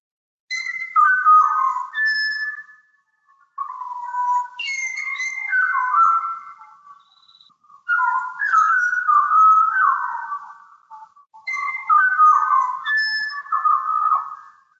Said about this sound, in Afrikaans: Nou, as jy dink die bokmakkerie sing mooi, dan is daar die Maria Callas van die voëlwêreld. En dit is 'n Australiese voël met die naam van die Pied Butcherbird. Luister bietjie hier.